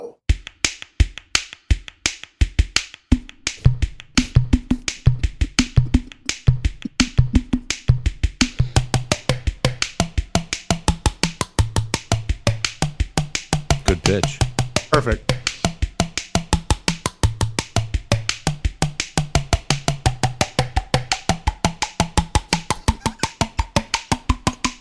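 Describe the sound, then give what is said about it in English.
A man slaps his own face and head in a fast, steady rhythm to perform a song, the sharp smacks shifting in pitch like a percussive tune, with a few brief spoken words; the bass thump is not from his head. “All the sounds in this recording are him hitting himself on the face, on the head, somehow.”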